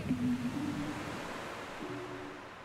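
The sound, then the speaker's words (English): A steady, hissing wash of ocean surf during a surfing lesson fills the scene at moderate volume, with a faint low droning hum appearing briefly at the start and again near the end. “After some safety instructions, warm-up jumping jacks, and practice pop-ups on the shore, we grabbed our boards and paddled out into the sea.”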